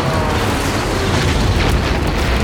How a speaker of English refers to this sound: The rocket hit square beneath the left wing and tore the fighter to pieces. A bright orange explosion.